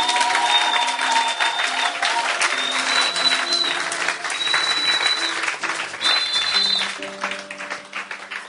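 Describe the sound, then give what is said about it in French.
An audience at a French-language church sermon applauds steadily for Jesus, a dense, continuous wash of clapping that fades slightly toward the end, with faint sustained tones and crowd voices beneath it. “Applaudissez pour Jésus.”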